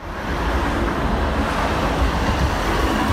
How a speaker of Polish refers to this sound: Co panowie teraz słyszą? Co słyszymy? Głos samochodu z naprzeciwka. Hałas. Tramwaj. Bardzo duży hałas. Jak to w mieście, w centrum?